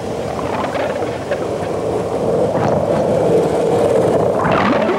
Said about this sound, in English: We can't hear the dolphins, of course, but what we can hear is the terrible din of all these ships' engines and propellers. It's a bit like an underwater M1 with all the traffic bumper to bumper in both directions.